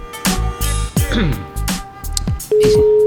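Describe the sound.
Telephone dialing tones as a person places a random call to someone: a few sharp clicks under a person talking, then a steady, loud, mid-pitched phone tone that holds through the final half-second.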